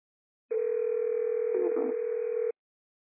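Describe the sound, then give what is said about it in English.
A telephone rings once as a steady, unbroken electronic tone lasting about two seconds, fairly loud, with a faint rustle of background noise partway through. “I don't know why the phone's ringing.”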